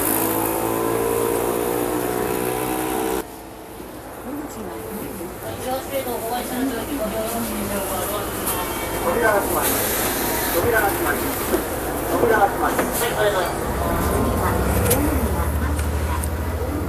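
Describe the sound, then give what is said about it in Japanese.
A bus pulls up and stops at a bus stop, its engine rumbling with bursts of hissing air brakes and street noise, and a deep idling drone settling in at the end. “ということでバスが来ましたんで乗って帰りたいと思います。”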